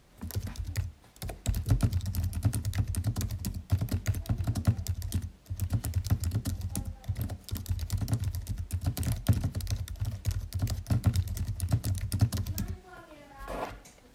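Steady, rapid typing on a compact, low-profile Apple Magic Keyboard (small version), soft clicks forming a continuous patter with brief pauses, ending with a short quieter stretch.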